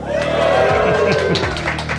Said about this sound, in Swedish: Vi befinner oss på restaurang Otto på Chalmersområdet med en månghövdad publik som låter ungefär så här.